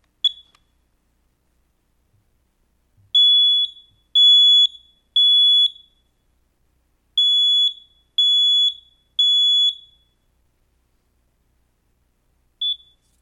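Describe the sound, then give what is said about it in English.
A loud, shrill smoke detector alarm sounds in two groups of three long beeps with a pause between, then a single short chirp near the end, with no voices. “By the way, Tim Labrat shared last Sunday, I think it was during the service, check your smoke detectors.”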